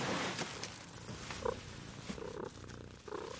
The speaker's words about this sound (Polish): O, zaczął mruczeć. Słychać? Słychać.